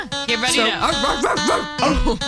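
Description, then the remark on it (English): A person loudly mimics a dog, letting out a quick run of warbling barks and yips, the pitch bending up and down with each burst. “You just thought … was barking for fun?”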